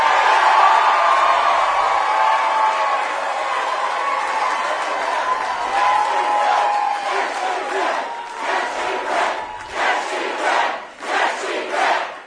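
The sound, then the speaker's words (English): A large crowd chants "Yes, she can" loudly in unison, a dense roar that breaks into rhythmic, repeated shouted phrases toward the end, with no single voice standing out. “What are they yelling? Yes, she can.”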